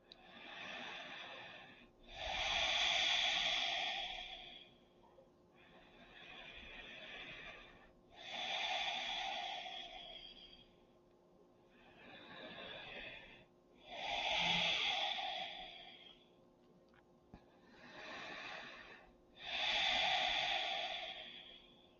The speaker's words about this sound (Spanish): Ahora relaja tu cara y trata de establecer cuatro inhalaciones y cuatro exhalaciones. Pero no detengas a tu respiración entre cada respiración. Mantén a tu cuerpo relajado.